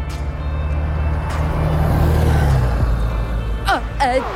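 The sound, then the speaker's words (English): A bus rumbles loudly with a deep engine drone that drops in pitch as it passes, followed by a brief hiss and some squeaky chirps near the end. “That was my bus.”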